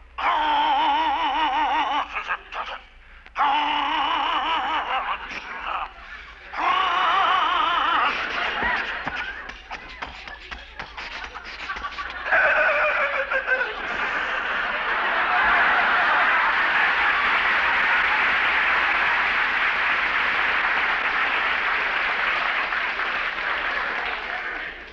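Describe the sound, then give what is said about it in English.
An old car motor with a self-starter sputters and chokes in uneven, wheezing bursts with short gaps as someone tries to start it, never catching. Then sustained audience laughter and applause take over for the rest. “Something seems to be wrong with the motor. Choke it. Sounds like it's being strangled now.”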